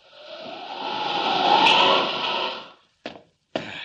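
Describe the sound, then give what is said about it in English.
Glass from a roof skylight being smashed as Superman breaks in: a long, crunching, shattering clatter that swells and fades over nearly three seconds, followed by two short, sharp knocks. No one speaks. “There's the skylight. Or rather, there was the skylight.”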